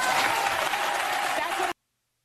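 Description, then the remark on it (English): A crowd cheers and applauds in a dense, steady, loud roar of clapping and voices, then it cuts off abruptly after under two seconds. “And the crowd cheers.”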